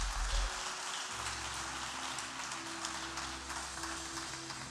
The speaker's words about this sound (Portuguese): Você pode dar um aplauso e ficar de pé?